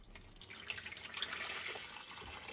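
Water pours steadily from a drinking cup into a tall, thin flask, a continuous bright splashing and gurgling stream lasting a few seconds with no talking.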